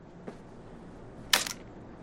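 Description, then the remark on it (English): A crisp camera shutter click with a quick double snap of mirror and shutter, preceded by a faint small tap, as a man focuses a camera and clicks the shutter, against a quiet background with no talking. “He takes it from her, focuses carefully, and clicks the shutter.”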